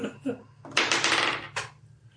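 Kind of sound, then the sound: sound effect, gold coins clinking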